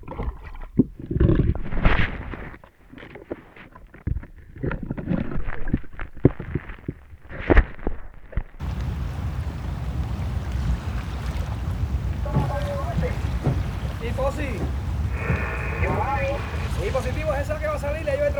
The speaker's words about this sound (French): Là, on est au large de la baie des Cochons, à Cuba. Quelque part en mer. Toute l'équipe du film s'entasse sur le seul bateau qu'on ait pu trouver. Un vieux chalutier bien déglingué.